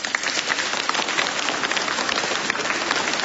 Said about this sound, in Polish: W ostatniej chwili do nas dotarł Hrubieszów, parafia świętego Mikołaja. Także gorące brawa.